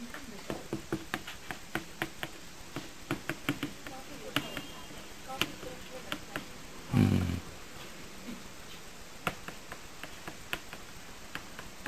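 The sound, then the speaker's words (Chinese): Noisy, hasty writing strokes on a board while drawing the terrain of the Golan Heights in a lecture: a run of sharp, irregular taps and scratchy clicks, some crisp and loud, with one heavier dull thump midway through. “我写字都很吵啊，很潦草啊。”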